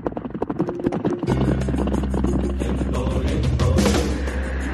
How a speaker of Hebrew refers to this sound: מה קרה? מה זה הסאונד של המסוק הזה פה מעלינו?